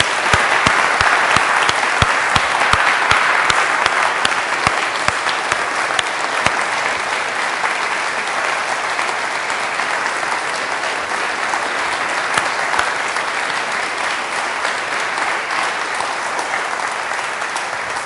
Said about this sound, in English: And folks, I can't imagine this happening without our applauding them and saying thanks to God and clap offering of thanks to God. So let's go for it.